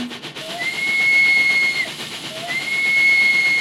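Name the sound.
steam train whistle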